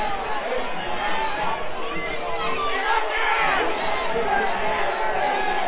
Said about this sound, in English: Crowd is not happy about it.